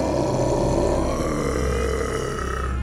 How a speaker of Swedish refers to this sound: För en bit in i skogen mötte han en rytande drake.